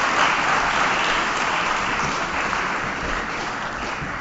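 A crowd claps steadily in dense, continuous applause, staying fairly loud throughout and tapering only slightly toward the end, with no voices standing out.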